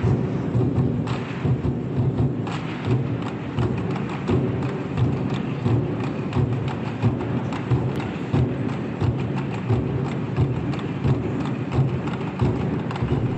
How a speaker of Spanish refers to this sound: Bueno, pues nos hablabas antes de los petardos y los tambores como estos que vamos a escuchar ahora.